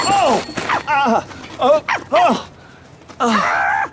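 A female dog named Angel barks and yips at a cyclist by a canal, a quick irregular string of sharp, high-pitched bursts, then a brief lull before one last longer, louder yelp.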